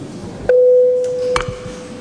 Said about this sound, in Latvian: Paldies, lūdzu zvanu.